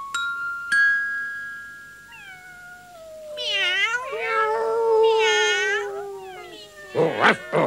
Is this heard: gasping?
no